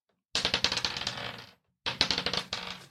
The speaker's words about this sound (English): Can you also roll the encounter dice?